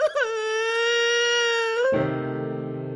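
girl crying

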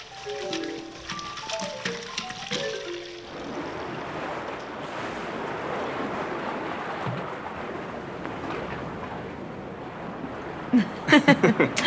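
falling water

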